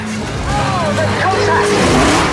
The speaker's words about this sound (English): Both cars slide and spin down the track in plumes of tyre smoke and leaving black lines of rubber on the tarmac. The leaders are spun out!